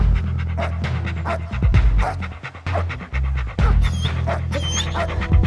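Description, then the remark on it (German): A person imitates a dog's panting as a theatrical act, a rapid series of loud, breathy huffs with occasional whiny tones, continuous for several seconds without any talk. “Der Hund ist Theater.”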